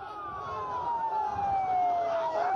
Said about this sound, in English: Now, as the familiar cycle of action and reaction turns once more, ambulances race through Palestinian streets, Ramallah, Tulkarem, and Gaza.